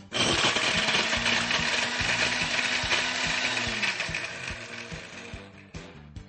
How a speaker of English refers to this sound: So let's make a smoothie. First, you want to blend the ice in the blender just for a couple seconds.